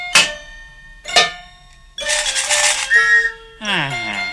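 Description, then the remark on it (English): Two ringing metallic clangs, like a pan and a can being struck, followed by a loud, breathy whistle blast that ends in a shrill, sliding tone. “Yeah, and then I blow this whistle.”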